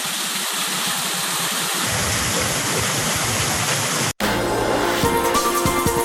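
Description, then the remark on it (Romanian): A loud, steady rushing roar of a waterfall near a cave at the far end of a village fills the first four seconds, constant, then cuts off abruptly and gives way to a different, tonal sound. “Mai facem câțiva pași și suntem la cascadă.”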